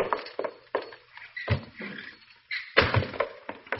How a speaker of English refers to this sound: Well, if it ain't Hopalong Cassidy, and he comes sneaking in my side door.